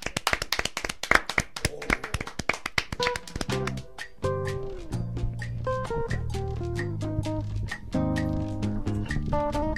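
A burst of fast applause from a small group fills the first few seconds, then fades as a bright musical jingle with steady synth tones takes over.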